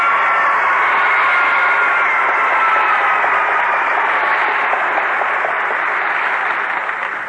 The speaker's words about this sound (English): Well, thank you for that rip, snort, and round of applause, pretenders.